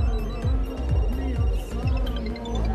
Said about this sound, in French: Soudain, les téléphones des hauts gradés se mettent à sonner.